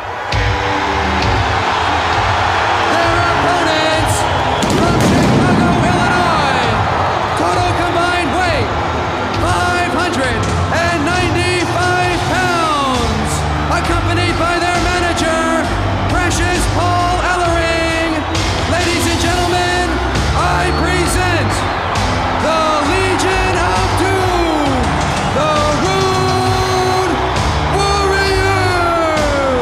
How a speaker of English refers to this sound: This crowd is just so hot. One of the things I like so much about this event is, so you get the Road Warriors taking on the Skyscrapers, and the crowd reaction to the Road Warriors when they come out is unbelievable on the show.